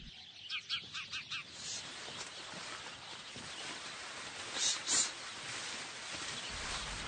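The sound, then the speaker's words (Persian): Sparrows hopping back and forth above corn plants chirp in quick bursts, a run of about five sharp tweets at first, then continuous busy twittering from a flock, with a couple of louder chirps standing out. “گنجشکا بالای بوته های بلال این طرف و اون طرف میپرند و چیک چیک میکنند.”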